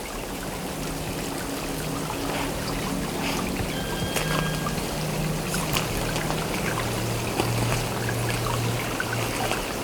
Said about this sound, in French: À l'abri du vent, au bord de la piste, enneigée, à moitié gelée, s'écoule ce petit ruisselet.